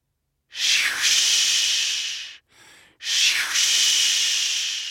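North Sea waves wash onto an island beach in two long, loud hissing surges, with a brief, softer rush between them. The steady foamy roar swells and fades, and no one speaks.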